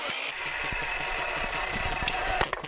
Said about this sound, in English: where he's installing plywood and cutting blocking using a nail gun driven by a 35-year-old air compressor that you hear quacking in the background.